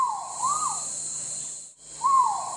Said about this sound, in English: Now that I'm home, I've uploaded the call of the gibbon into my digital alarm clock to wake me up every morning.